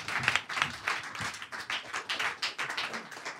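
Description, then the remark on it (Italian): Audience applause at an evening event hosted by the radio station Radio Popolare: a dense burst of many hands clapping with uneven rhythm, fairly steady in loudness with small swells, no voices standing out above it. “Fate un applauso intanto a Radio Popolare che ci ospita per questa serata.”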